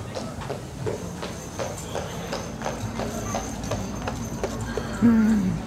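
Heavy Clydesdale horse hooves clip-clop in a steady, repeated rhythm, with a low rumble of activity behind and a brief voice-like sound near the end; the big horses are being sorted and put into the shafts of their small carts.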